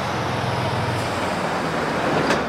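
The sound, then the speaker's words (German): Steady rumble of city traffic on Friedrichstraße, a street reopened to cars after being a pedestrian zone, with cars and heavier vehicles passing continuously and a brief hiss of one vehicle going by near the end. No voices. “Jetzt fahren hier wieder Autos.”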